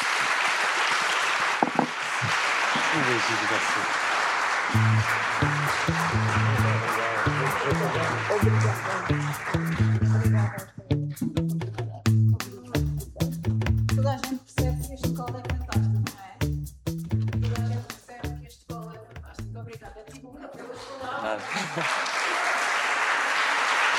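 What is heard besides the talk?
audience applause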